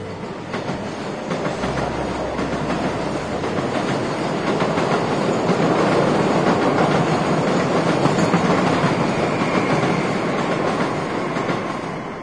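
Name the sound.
train passing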